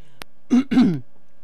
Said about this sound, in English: I didn't push the cough button, but I'll try to remember to do that in the future for sure.